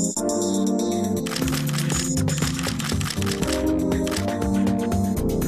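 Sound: camera shutter clicking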